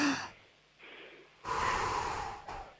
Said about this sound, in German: Wir atmen nochmal gemeinsam durch, einatmen und ausatmen.